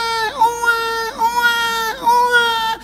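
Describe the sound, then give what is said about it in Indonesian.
A person imitates a baby crying, making three long, loud wailing sobs in quick succession, each rising and falling slightly in pitch, with no talking. “Udah mirip bayi belum?”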